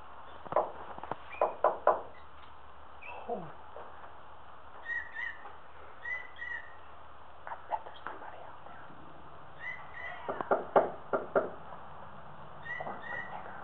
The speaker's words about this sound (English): is that you knocking on the side of the wall?